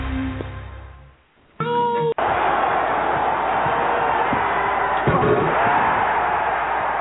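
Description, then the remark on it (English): A loud arena crowd erupts into sustained, roaring cheers and noise after a brief lull and a sharp slam, the broad wall of sound holding steady to the end. “Well, the crowd lets you know what they think of it.”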